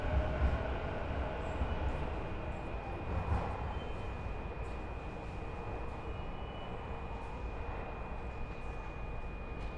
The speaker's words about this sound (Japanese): 電車は9時31分発、快速湘南台行きです。星川、鶴見、二俣川と二俣川から先、終点湘南台までの各駅に停まります。この電車は途中駅での大和海老名方面の電車の接続はございませんのでご注意ください。発車まで1分少々お待ちください。